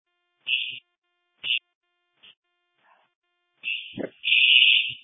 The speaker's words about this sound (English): Momentarily, we're going to be doing a fire drill at Newbert Elementary School. If you could let me know when you get the alarm. Message received. 108 from CCOM. Yes. We have received the fire alarm.